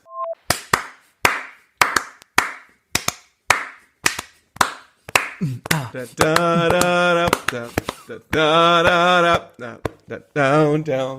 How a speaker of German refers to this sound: Ich hab mir gedacht, besonderes zur Folge 169 klatschen wir mal in die Folge rein.